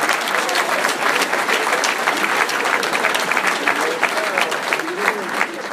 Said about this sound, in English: We brought one of the best coaches in the country, without question, and a man that is responsible in two short years of helping us really establish what we're doing. That's Chuck Martin. Cheer for Chuck.